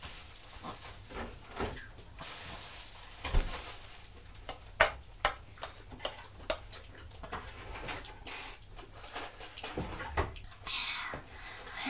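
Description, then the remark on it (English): Milk is poured in a steady, hissing stream, broken by scattered small splashes and clicks for about twelve seconds, with no talking. “We'll pour some milk on there.”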